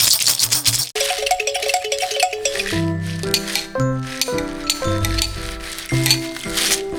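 A bright, noisy crash as Pezzettino, from the children's story, tumbles and breaks into a thousand little pieces, lasting about a second, then giving way to a run of tinkling, bell-like musical notes stepping up and down.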